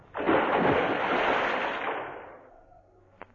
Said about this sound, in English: He's fallen in the water.